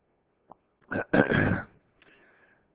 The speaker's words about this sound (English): How'd you know I needed that? Because I was coughing so much?